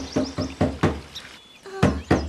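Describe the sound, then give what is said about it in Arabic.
An elephant character in a children's story knocks firmly on a door that no one opens, a quick series of four raps followed by a short pause and two more, with a faint high chirp in the gap. “أكثر من مرة طرقت الباب ولكن لم يفتح أحد.”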